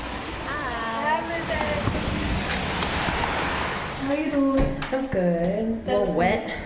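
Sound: pouring rain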